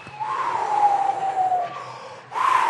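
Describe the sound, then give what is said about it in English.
A voice imitates gusting wind in answer to a question about how the wind sounds when it gusts: a long, breathy howl sliding slowly downward in pitch, a brief dip, then a second howl swelling up again at the end. “Sometimes if it gusts, what's the wind sound like?”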